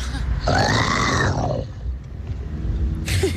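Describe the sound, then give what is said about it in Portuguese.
A person imitates a lion's roar, presented as a zoo animal: one loud, rough, growling cry lasting about a second, trailing into low rumbling and breathy noise. “Felino feroz, The Lion King.”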